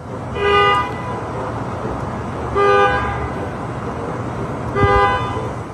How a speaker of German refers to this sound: Das war ein autonomes Hupen. Und das kam daher, dass dieser Parkplatz voll von Waymos, der war irgendwann relativ voll und es führte dazu, dass sich jetzt nicht nur einmalig, sondern quasi jede Nacht diese autonomen Autos gegenseitig anhupen.